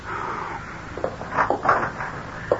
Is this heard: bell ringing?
no